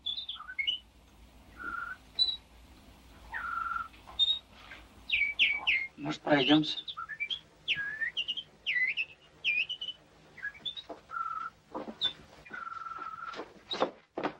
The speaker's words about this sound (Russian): Соловей поет. Да, соловей. Да откуда ему взяться в нашей деревне? После твоего отъезда я что-то ни одного соловья не слыхал.